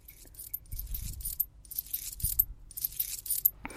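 Coins are poured out over a person's body in a run of bright metallic clinks and jingles, arriving in several bursts with soft low thumps underneath as they land on the body, moderately loud.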